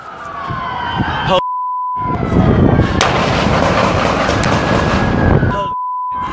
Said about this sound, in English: Shots ringing in the air and sirens piercing through an empty road in Texas. This amateur video shows the dramatic scenes play out.